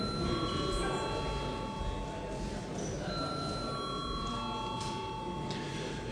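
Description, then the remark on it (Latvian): A parliament chamber bell rings steadily for several seconds before a vote, a continuous metallic tone with bright ringing overtones and a low murmur underneath. “Lūdzu, zvanu.”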